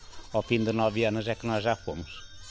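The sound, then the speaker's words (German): Goats bleat in a village in a quick run of wavering, nasal calls, several overlapping cries, with faint jingling in the background. “Senor Silvino blickt etwas wehmütig den Ziegen hinterher.”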